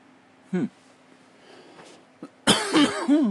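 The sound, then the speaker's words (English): A short, single cough, then after a quiet stretch a louder run of harsh, raspy coughing that carries on to the end, with no talking. “I cough a time or two.”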